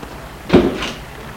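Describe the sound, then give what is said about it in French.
The door of a car that has just braked and stopped opens with a single short clunk and a brief rush of noise, with no one talking over a quiet background. “La portière s'ouvre.”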